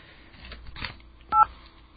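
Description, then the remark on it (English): A single short touch-tone keypad beep rings out clearly midway through, a brief two-tone dialing blip over faint background rustling and hiss, as a phone number is dialed on a telephone. “Okay, this dial tone. I'm going to call the number.”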